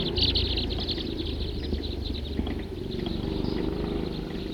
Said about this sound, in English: Very big flock. 50 crossbills.